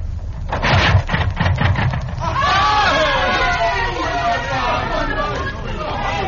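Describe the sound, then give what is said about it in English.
A crowd of many overlapping voices chattering excitedly, a busy murmur that swells and stays dense throughout, with some louder rhythmic bursts at the start: neighbors gathered to watch Carl Benz start and drive his horseless motor vehicle. “was a crowd of neighbors eager to witness the strange sight of a vehicle proceeding without horses.”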